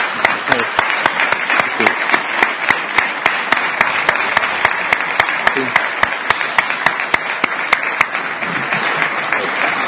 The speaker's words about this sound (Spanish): Por todo eso, y más cosas, pido, lógicamente, un fuerte aplauso para el ganadero.